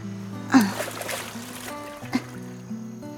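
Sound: waves washing ashore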